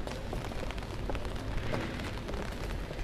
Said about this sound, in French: Okay, si, il pleut, alors vous pouvez l'ouvrir, il pleut.